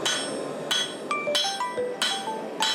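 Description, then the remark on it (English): A hammer strikes hot iron on an anvil in steady, ringing blows, each clang followed by a bright metallic ring, roughly every half second, loud with no voices; the iron, heated in a forge to over 1,000 degrees Celsius to its plastic state, is being forged into the shape of a knife. “You're smashing it into shape.”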